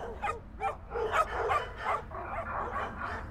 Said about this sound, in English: So many of them started barking. Yeah, these are Earth dogs, I think.